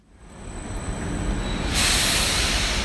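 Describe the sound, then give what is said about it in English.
An electric blue train rumbles into Vienna's main train station with a thin, steady high-pitched brake squeal, then a loud burst of hissing air as it screeches to a halt. No one speaks. “an electric blue train screeches to a halt in front of them in Vienna's main train station.”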